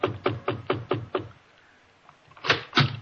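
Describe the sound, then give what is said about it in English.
A quick run of six knocks raps on a wooden chamber door, fairly loud, then after a short quiet pause two more heavier knocks follow. No one speaks. “The knocking that came upon my chamber door could have been the raven.”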